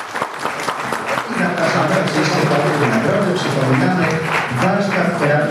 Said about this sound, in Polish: A mowa o warsztacie terapii zajęciowej w Oleszycach. Prosimy o wielkie brawa.